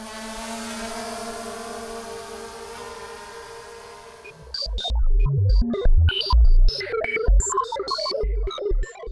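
A steady, high-pitched electric buzz of drone rotors hums evenly for several seconds, then turns choppy and louder, broken up by rough bursts and crackling thumps.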